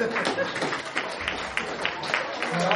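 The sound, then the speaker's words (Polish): An audience applauds the models, with steady, dense clapping throughout, a continuous crackle of many hands with scattered sharper claps and some crowd murmur mixed in. “Brawa.”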